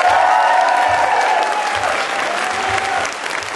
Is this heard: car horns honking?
no